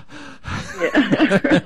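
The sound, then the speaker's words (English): A person breathes heavily and quickly, a long breathy intake followed by several voiced, gasping pants, like exaggerated anxious breathing. “Listen to my breathing.”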